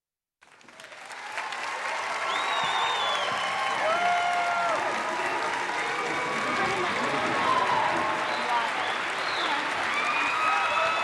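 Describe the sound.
A large audience applauds steadily for about ten seconds, the dense clapping loud and sustained, with faint whoops and crowd voices scattered through it.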